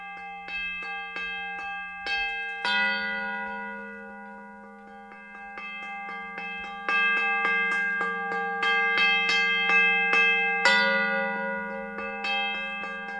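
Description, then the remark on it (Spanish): Church bells toll in a steady, overlapping peal, with repeated resonant strikes ringing out and lingering hums beneath; no voices, the ringing fairly loud and continuous throughout. “Oímos campanas y nosotros sí sabemos de dónde vienen, ¿verdad, señor Tropical?”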